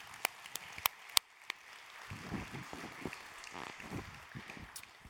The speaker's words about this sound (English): Happy Mother's Day to all of you moms. We're so grateful that you're here with us this morning. You deserve a round of applause, and so we'll just give that to you.